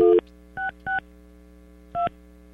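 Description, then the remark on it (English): Four short electronic beeps from a telephone keypad as a phone call is dialed, irregularly spaced over a steady low background hum, with no voices. “Maybe I dialed it wrong.”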